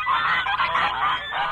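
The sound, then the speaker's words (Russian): A flock of geese honks loudly and continuously, overlapping nasal calls crowding together for a short burst, with no one speaking. “Потом позвонили гуси.”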